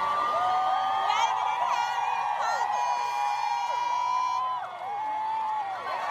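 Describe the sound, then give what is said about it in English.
A large crowd screams and cheers nonstop at the procession of Meghan and Harry, high excited voices overlapping in a loud, dense roar with shrill shrieks rising and falling throughout, unbroken for the whole stretch. “Please turn down the volume because you'll hear me screaming that Meghan and Harry are coming.”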